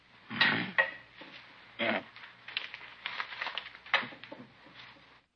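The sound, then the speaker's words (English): Keys and other small hard items taken out of a person's pockets clink and clatter onto a tabletop in a few separate drops, with soft rustling and shuffling between them, moderately loud. “Keys.”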